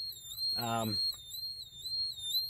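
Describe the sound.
A gas monitor alarm sounds steadily throughout during a class demonstration, the monitor held under a student's mask and reading in the 17s, a shrill high-pitched tone that warbles in a repeating pattern, with a brief burst of a person's voice near the start.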